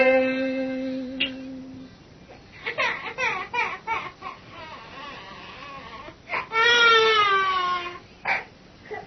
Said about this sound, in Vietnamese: Lá kìa, nơi cửa thiền thanh tịnh, sao có tiếng hài nhi nức nở khóc la?